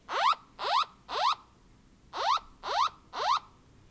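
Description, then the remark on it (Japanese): A Japanese mobile phone's earthquake early warning (Kinkyu Jishin Sokuho) buzzer alert sounds: two bursts of three quick, rising electronic sweeps, each tone bright and buzzy, loud and alone with no voices, separated by a short pause. The full buzzer lasts 30 seconds. “大きな揺れで緊急地震速報のブザーが鳴り響いたときは、まず自分の身の安全を守り、それからお年寄りや子どもさん等がいたら危険な場所から離れるように声かけをしてくださいと。”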